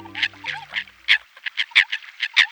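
American coots cackling, grunting and croaking to one another on a still lake on a calm winter morning, in a rapid, rhythmic run of about a dozen harsh, clucking calls, with a low steady tone fading out underneath at the start.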